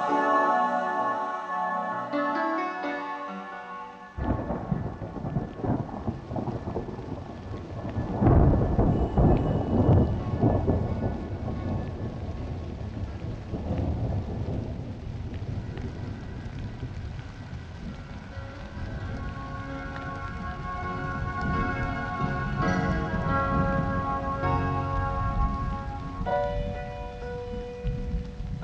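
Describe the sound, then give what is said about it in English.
Steady, heavy rain at the end of summer pours down with deep rolls of thunder, swelling loudest partway through, after a brief tonal, bell-like opening. Soft musical tones linger beneath the storm, and no one speaks. “The rain was killing the last days of summer.”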